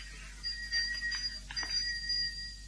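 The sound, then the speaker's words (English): A servant call bell in an old-fashioned house rings steadily and continuously for a few seconds, a bright, metallic trill with no voices over it. “Ring that bell, will you? I wish to speak to the majordomo.”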